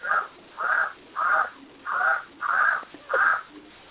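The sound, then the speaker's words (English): A bird calls six times in a steady rhythm, each harsh, raspy note about a third of a second long and fairly loud, with short gaps between and no talking. “I think we have a duck or something in the background.”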